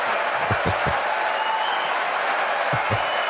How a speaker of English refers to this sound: They're applauding for honesty. No. And they're also applauding for political correctness.